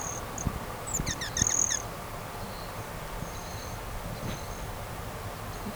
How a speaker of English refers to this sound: There's at least one rot-tailed hummingbird, at least one male rufous hummingbird, and other females. That's the rufous. That's the broadtail. That's the broadtailed.